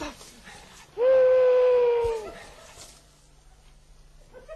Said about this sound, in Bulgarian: Това е бухал, а той не може да ни изяде.